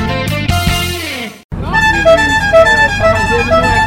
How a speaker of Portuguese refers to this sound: Este é o mais novo som em torno da Lagoa da Pampulha. É o som da Maria Rocha, apelido do ônibus Chevrolet 6500, que fará o novo passeio Pampulha Retro Tour.